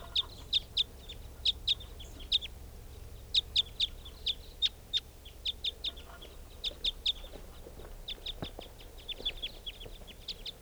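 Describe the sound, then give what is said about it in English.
Two type 5 birds, coming back or flying over, call again and again, giving short, sharp, high-pitched notes in quick clusters and pairs, fairly loud and steady above a low rumbling background with no voices. “Well, the recording sounds like the type 5s are coming back.”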